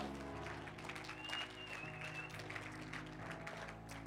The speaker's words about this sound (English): In Jesus' name, church, you need to clap and bless God.